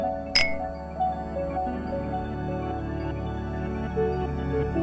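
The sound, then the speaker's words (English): Two glasses of gin clink together once in a toast near the start, a single bright, ringing chime, followed by a steady, low, humming background with no talking. “He pours us both a glass. Cheers.”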